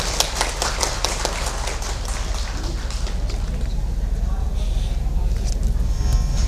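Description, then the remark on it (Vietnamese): Audience applause at a Buddhist gathering of monks and nuns, celebrating the occasion: a crowd clapping in a dense, steady patter of sharp claps, loudest and most distinct in the first few seconds, then blending into a continuous wash that carries on to the end. “Xin cho một tràng vỗ tay thật lớn để chúc mừng nhân duyên lành.”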